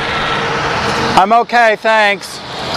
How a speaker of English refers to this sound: The orbit bus was passing me. I'm glad he stopped.